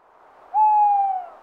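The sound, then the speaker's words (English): A single owl hoot, a steady mid-pitched tone that holds for about half a second before fading out, heard alone over quiet background with no talking. “I heard another noise. What was it? It's okay, Claudia. It's an owl.”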